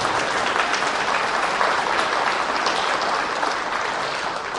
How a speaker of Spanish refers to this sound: Hazme el favor, le dan un aplauso a él. Nadie lo ha aplaudido hoy.